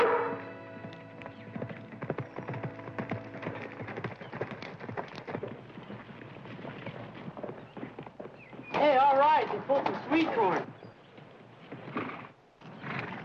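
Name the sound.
horse hooves clip-clopping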